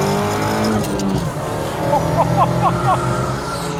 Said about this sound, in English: This week, a Volvo P1800 Restomod by Cyan Racing Road Review. There's quite a different character to this car, between 5,500 RPM to 7,000 RPM. Second gear, so 4,000 RPM, and then...